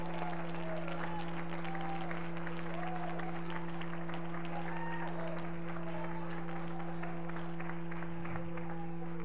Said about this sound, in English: If God's been good to you, somebody shout, somebody shout, somebody shout, somebody get all shouty, somebody make some noise, somebody rattles, shout.